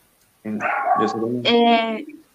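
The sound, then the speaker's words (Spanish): A pet dog barks twice in quick succession, each bark loud, drawn-out and strongly tonal, almost a yowl, with the second one higher-pitched and ending in a brief whine. “Justamente acaba de ladrar mi perro y no escuché muy bien tu pregunta, perdón, pero sí estuve atenta.”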